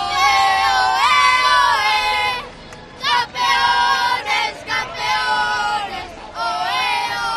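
A loud crowd of fans in Spain shouts and cheers, celebrating a world championship win, many voices chanting together in strong bursts separated by brief pauses, energetic throughout.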